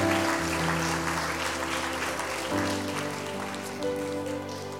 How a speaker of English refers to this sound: If you receive the teaching, give God a hand clap. Si recibieron la enseñanza esta mañana, dale la gloria a Dios. Hallelujah.